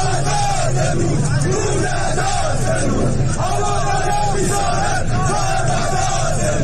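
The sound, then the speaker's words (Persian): A large crowd of people of Abadan, Khuzestan, gathered in front of the Metropol building, shouts together in a loud, continuous roar of many raised voices, with chant-like swells rising and falling throughout. “ساعتی پیش از آن جمعی از مردم آبادان مقابل ساختمان تجمع کرده بودند.”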